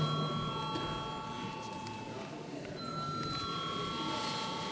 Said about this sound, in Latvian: Deputāti prasa balsojumu, lūdzu zvanu.